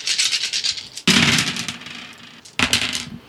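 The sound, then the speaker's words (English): A handful of 12 dice, rolled during a game, rattles briefly, then spills in a loud clatter that tumbles and settles, followed by a second sharp burst of clattering dice. No one speaks. “I'm going to take two extra dice.”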